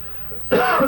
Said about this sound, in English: bad cough, or probably pneumonia. Bad cough.